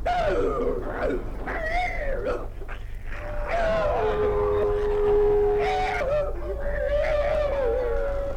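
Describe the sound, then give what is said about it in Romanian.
A dog howls and yelps in a frantic, wavering series of cries while fighting a wolf, with pitched whines sliding up and down over a constant low rumble, loud throughout. “Nu! E un câine!”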